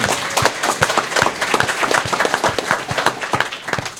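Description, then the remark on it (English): An audience at a panel discussion applauds steadily, a dense patter of many hands clapping at once, loud and sustained without a break, with no one speaking over it. “I want an applause for cablesearch.org.”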